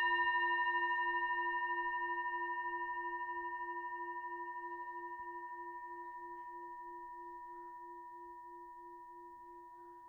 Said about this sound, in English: allowing the eyes to close, and we'll start and end the meditation with the bell.